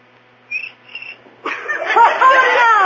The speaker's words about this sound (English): How do you like that? A cricket with rhythm. Oh, that was just a coincidence.